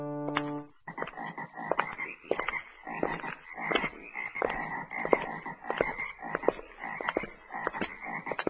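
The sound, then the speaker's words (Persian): Many large frogs covering the whole land, as in the plague of frogs on Pharaoh, croak together in a dense, continuous chorus, with loud overlapping calls pulsing steadily throughout. A brief low tone sounds at the very start before the croaking fills everything. “همه جا این قورباغه های کلان وق وق کننده.”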